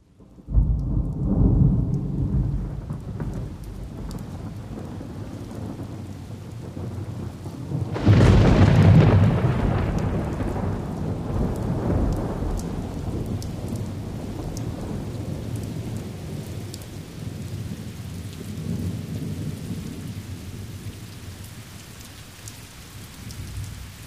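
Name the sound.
rain and thunder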